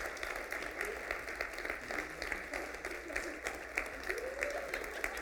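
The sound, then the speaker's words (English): Steady audience applause as graduates come up on stage, a dense crackle of many hands clapping at once, sustained at an even level throughout with no voices standing out. “Let's give them a round of applause as they come on up.”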